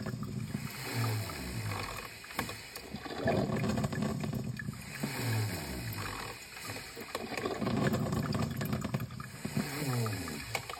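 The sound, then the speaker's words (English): A coffee maker at home at 5:30 in the morning gurgles in low, rasping bursts that rise and fall about every two seconds, sounding much like someone snoring, with a steady hiss underneath and no one speaking. “But I discovered that my coffee maker has a snoring problem.”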